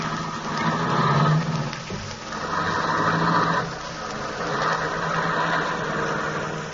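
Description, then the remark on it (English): A car engine hums steadily for several seconds, its pitch rising and falling slightly as the vehicle pulls away, with a rushing, noisy wash layered over the low drone. “How do you like this boat? Beats walking, huh? Yes, sir. Yeah, it's a nice car.”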